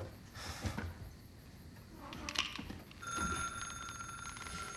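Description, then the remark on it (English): A telephone rings with a bright, steady electronic tone that starts partway through and continues to the end, moderately loud over a background of low rumbling noise. “I'm gonna have to get that. No, no, Kate, just stay there. Just leave the phone alone.”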